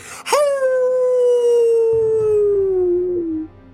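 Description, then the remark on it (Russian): A single loud grey wolf howl, one sustained mournful note that starts high and slowly slides downward for about three seconds before cutting off, with no talking. “Сел Иван-царевич на серого волка.”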